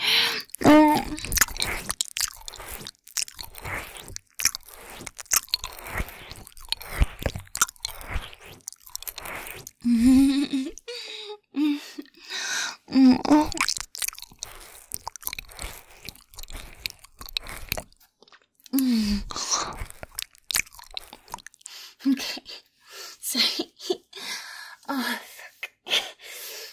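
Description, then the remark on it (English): Wet licking and slurping mouth sounds of someone licking another all over repeat in an irregular stream for the whole stretch, mixed with soft breaths and small gasps, with no talking. “I just can't help it. I gotta lick you all over.”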